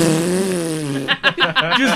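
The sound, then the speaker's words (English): A loud, low, buzzing fart imitated with the mouth holds steady for about a second, then gives way to a quick run of choppy vocal bursts that sound like laughter. “So I'm trying to squeak out a fart because it's tearing up my guts.”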